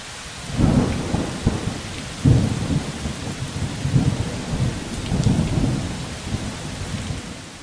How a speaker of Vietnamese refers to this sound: Cơn mưa giông gió này đập ầm ầm vào vách nhà cả đêm.